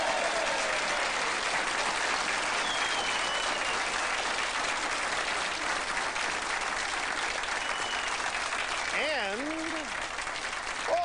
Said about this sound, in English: Applause, which it's the loudest line of applause anything's gotten on this show all day.